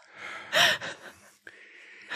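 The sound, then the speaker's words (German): A sharp, loud gasp of breath bursts out after a person has held their breath while writing until closing the pen, followed by a few softer airy breaths and a brief quiet pause, with no talking. “Du darfst erst wieder atmen, wenn du den Stift zugemacht hast.”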